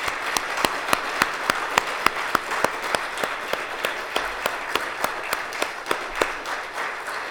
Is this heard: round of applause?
yes